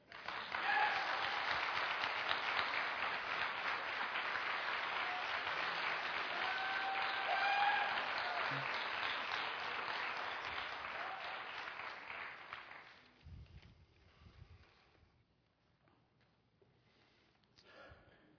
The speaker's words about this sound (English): If you're going to applaud, would you just really do it?